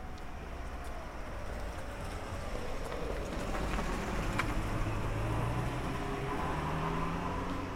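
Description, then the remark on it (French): A car speeds along a boulevard in Arles in the morning, with a steady road rumble and engine drone that stays fairly loud throughout, with a faint rising whine partway through; no voices. “Bruit de voiture qui file peut-être vers la mer.”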